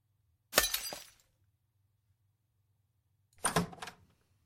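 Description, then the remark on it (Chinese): Two separate crashes of a breaking ceramic vase, a loud shatter followed by scattering shards, then a pause of a few seconds before a second similar smash. No voices, with a low steady hum underneath. “什么？你们竟然打碎了一只花瓶？”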